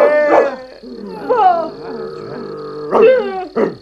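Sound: dog barking and growling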